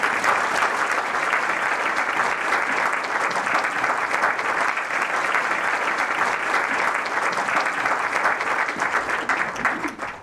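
Sustained applause from an audience at the end of a lecture marking the 100th anniversary of Maehata's birth, a dense steady patter of many hands clapping at an even, loud level for about ten seconds, with no voices standing out.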